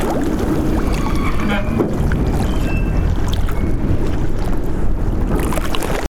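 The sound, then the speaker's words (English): River waves slosh and crash steadily against a wooden quay on the River Tejo in Lisbon, with occasional creaks and groans of the quay's timber shifting as the water lifts it, a continuous loud wash throughout. “You can hear the waves crashing on the quay wall and the quay itself when the water lifts it.”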